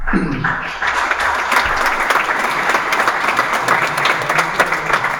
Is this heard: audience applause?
yes